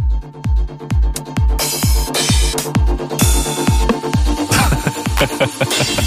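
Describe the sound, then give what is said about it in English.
A punchy, loud 909 drum machine beat plays: steady four-on-the-floor kicks with crisp hi-hats and bursts of open hats and claps, no voices. “It's the sounds from the 909 drum machine that basically started this whole scene.”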